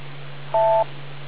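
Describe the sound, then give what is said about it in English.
A single short two-tone electronic beep, like a phone keypad tone, sounds clearly over the steady low hum and hiss of a telephone line. No one speaks. “Wait for the beep”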